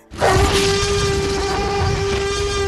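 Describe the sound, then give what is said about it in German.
A T-Rex roar bursts in abruptly and holds at full loudness for over two seconds, a rough, breathy blast with a steady droning pitch running through it and no voices. “Hier hören wir ihn schon brüllen, den T-Rex.”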